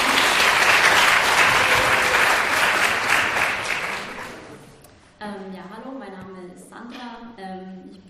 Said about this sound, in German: Vielleicht einen Applaus auch von unseren Gästen.